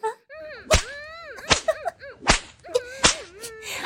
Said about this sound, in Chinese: 小贱人，啊，这鞭子抽得你爽不爽啊？